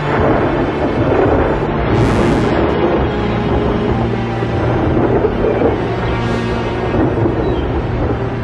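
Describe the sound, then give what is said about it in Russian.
A thunderstorm gathers over the sea with lightning flashing in the distance, rumbling on without a break, distant thunder rolling low and heavy beneath a steady wash of noise that swells briefly a couple of times. “Один за другим распускались паруса, все выше вздымались волны, собирались тучи, вдали засверкали молнии.”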